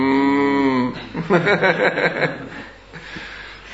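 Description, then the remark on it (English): A person gives a single drawn-out mooing sound, imitating a cow, loud for about a second, followed by a burst of rhythmic chuckling laughter that fades out. “Maybe we could have like a mass mooing together in class that might help with the mooning.”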